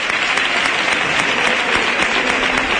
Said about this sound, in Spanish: Bueno, una gran ovación, un gran aplauso.